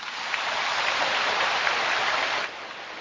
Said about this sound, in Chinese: 好像听到人间福报鼓掌的特别的热烈，我需要你们鼓掌更热烈的话，就是要提升自己的智慧。